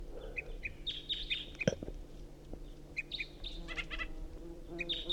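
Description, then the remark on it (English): A bird, the second singer being recorded, sings repeated bright, high chirping phrases in short bursts, with decoy birds also calling and a few clucking fowl sounds underneath, all over a steady low background hum. “Recording, this is the second singing bird.”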